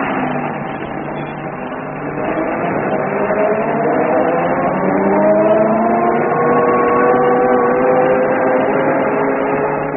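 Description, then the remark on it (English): The engine of an open truck carrying a party along a bumpy track in the bush drones steadily, its pitch climbing gradually as the vehicle gathers speed, with a constant rumbling hum throughout and no voices. “Wrapped in sweaters, the party clambered onto the open truck and drove off.”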